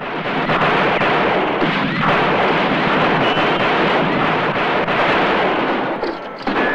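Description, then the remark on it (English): Rapid rifle gunfire crackles in a dense, nearly unbroken barrage of sharp shots as Joe opens fire on a gang, loud and steady for several seconds before easing slightly at the end, with no voices. “He's about to shoot when Joe opens fire, shooting rapidly at the gang, sending them scattering for cover.”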